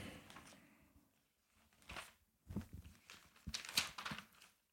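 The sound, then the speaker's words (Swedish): Paper pages being flipped, a few quick crinkly rustles and soft swishes in short bursts with brief pauses between, fairly quiet, with no one talking. “Jag ska bara bläddra fram till, vad fan är den då?”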